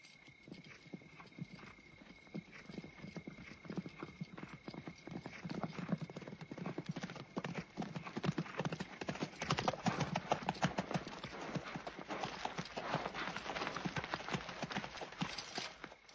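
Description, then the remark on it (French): Dense clip-clop of the hooves of hundreds of horses of a large army approaching, a continuous overlapping clatter that grows louder and busier as they come, with a faint whinny in the mix. “C'est une armée immense. 3000 hommes. Des centaines de chevaux.”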